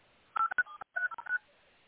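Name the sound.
telephone keypad dialing tones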